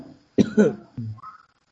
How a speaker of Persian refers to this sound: کرونا نگرفتم همین یه سرفه معمولی بود.